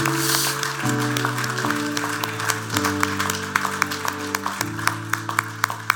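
An audience claps hands in praise to God over sustained organ chords, the applause dense and continuous at first, then thinning into scattered, sharp individual claps toward the end.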